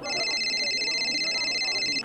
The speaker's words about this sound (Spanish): Profe, profe, le está sonando el celular.